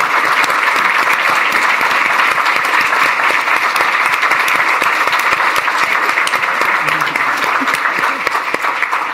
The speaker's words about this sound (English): Let's give both Laura and Ellen a round of applause.